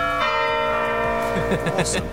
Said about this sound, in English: Let me hear the door. Come on. Yeah. Okay. And yeah, doorbell. That's the door there. Do the doorbell.